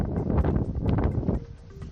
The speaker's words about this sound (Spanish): Ese es el sonido del viento de la borrasca Oriana, que ha obligado a aplazar actos del carnaval en Águilas, también en Cartagena y en Cabezo de Torras y otras actividades en la región de Murcia.